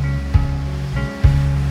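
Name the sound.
crashing ocean waves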